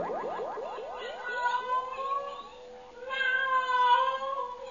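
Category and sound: animal, cat meowing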